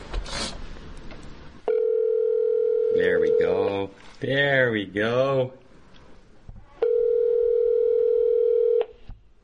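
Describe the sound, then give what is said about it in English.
A steady telephone dial tone hums for about two seconds, cuts off while a man speaks briefly, then the same flat tone returns for another two seconds. “Can we get John on the phone now? Right now?”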